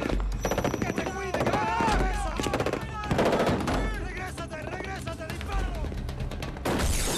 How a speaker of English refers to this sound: they're getting gunfire from multiple locations